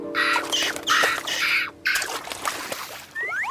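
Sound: seagulls calling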